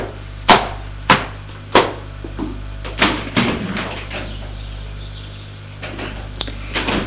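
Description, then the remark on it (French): Three sharp metallic knocks in steady succession, then a clattering slide and clunk as an elevator door closes, followed by a low mechanical hum and a few faint taps. “Ferme la porte.”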